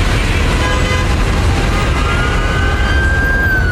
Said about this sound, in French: Ça klaxonnait, ça vrombissait, ça bourdonnait